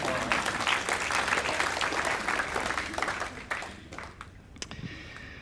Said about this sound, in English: Thank you. Let's give her a clap.